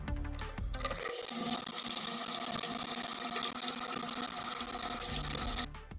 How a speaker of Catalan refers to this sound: L'aigua que surt de les nostres aixetes, però que continua sent ben escassa als pous que nodreixen el nostre poble.